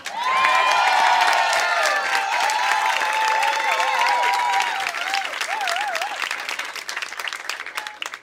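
An audience applauds steadily with dense, sustained clapping, joined by a few whistles and cheers that warble over the crowd noise before the applause gradually thins out.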